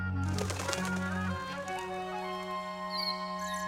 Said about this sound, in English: What kind of bird is it? A lark. You are seeing a lark in a cage for the first time and the last.